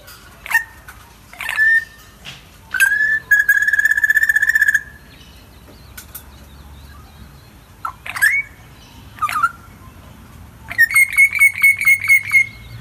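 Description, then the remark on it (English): A spiny-cheeked honeyeater calls alone and clear in a front yard in Mudgee, mixing rising whistled notes with rapid, buzzy bubbling trills in several bursts over a quiet background. “this one is a spiny-cheeked honeyeater, and I think the easiest way to spot them is to look for a little mottled bird that has bright, bare skin between its eye and beak, and that skin is bright pink.”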